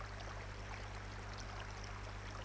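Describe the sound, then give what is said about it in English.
A steady, continuous rush of flowing stream water, soft and even throughout with no voices or other distinct sounds, forming a calm, unbroken background wash. “When your focus is on the sound of the water and the feeling that water has a cleansing effect on your entire system, your thoughts can take a well-deserved break.”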